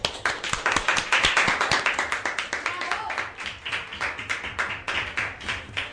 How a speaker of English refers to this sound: and I think they have done a very good job, so you deserve an applause.